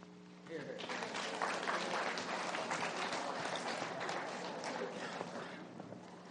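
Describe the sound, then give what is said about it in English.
A death penalty debate audience bursts into applause after a brief quiet moment, dense overlapping clapping that holds steady and fairly loud for several seconds without fading. “Please hold the applause.”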